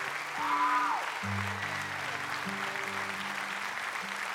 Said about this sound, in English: Hey, we're going to stop the applause for a second.